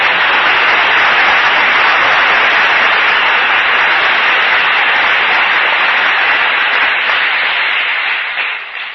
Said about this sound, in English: Clap them up. Clap the DSO.